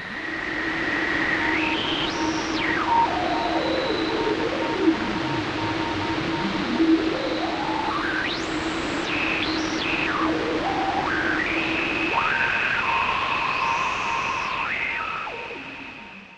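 Radio tuner static hisses steadily while resonant whistling tones glide up and down in pitch, sweeping and holding on steady notes before sliding again, with no voices throughout.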